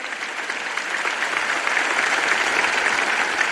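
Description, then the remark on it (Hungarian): Loud, sustained applause from a large crowd of the faithful, called for by the Pope for those who serve, a dense steady clatter of many hands clapping at once that holds its strength for the whole stretch without a pause. “A Szent Atya köszönetét fejezte ki nekik, majd a hívek hangos tapsát kérte a szolgálatot teljesítőknek.”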